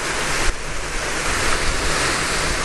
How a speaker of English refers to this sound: Oh man, that's like an 8-minute exposure. And it's windy. I mean, the camera looks fairly stable there.